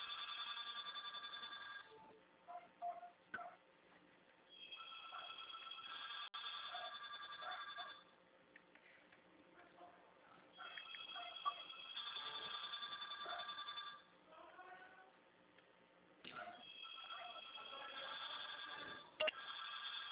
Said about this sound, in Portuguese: Gente, o telefone da agência aí, ninguém atende.